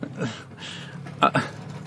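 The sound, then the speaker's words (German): A child riding a toy excavator makes two short, loud rattling scrapes close together, with faint voices murmuring in the background. “Das war so ein Spielzeugbagger. Kleines Kind auf so einem Spielzeugbagger, ja.”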